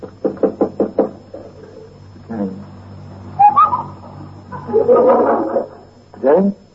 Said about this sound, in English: All right. Knock on his door.